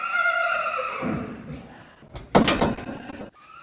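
A horse neighs loudly in a stable, a drawn-out whinny that trails off, followed by a burst of rattling, scraping noise like a sliding door being moved.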